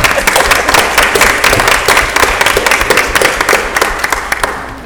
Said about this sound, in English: Yes, you can applaud us all.